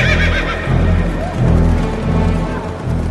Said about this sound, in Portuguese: O rei deu a ordem, os mensageiros montaram cavalos ligeiros da estrebaria real e saíram depressa.